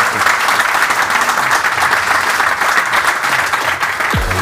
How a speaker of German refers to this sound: Ich sage an dieser Stelle herzlichen Dank. Und das ist dein Applaus vom Fußballkongress hier in Wien.